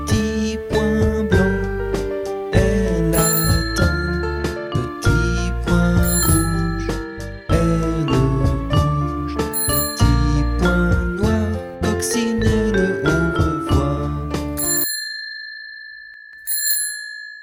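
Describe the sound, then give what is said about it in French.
A ladybug-shaped bicycle bell rings rapidly and repeatedly, a bright, continuous jangle for about fifteen seconds that ends with one last clear ding fading away. No voices. “Connaissez-vous la coccinelle sonnette qui annonce l'arrivée des bonnes nouvelles?”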